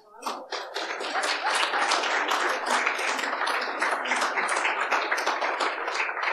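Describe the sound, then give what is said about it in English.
An audience breaks into applause, many hands clapping in a dense, steady patter that holds at an even level for several seconds after a quick start. “Well, I'm glad that you all clapped, because I was just going to say the exact same thing when you said between you started in 2012 and then 2017 to have no mothers die is an absolutely amazing achievement.”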